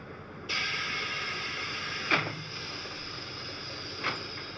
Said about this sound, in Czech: Klepe nám umakart.